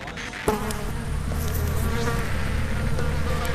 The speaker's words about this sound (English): I'm on town hall steps, there's flies everywhere.